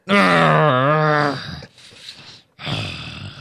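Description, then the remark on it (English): A person growls: a loud, drawn-out voiced growl with a wavering pitch, fading into a quieter breathy rasp, then a second rough growl bursts in at the end. “I growl at spoilers because I'm weird”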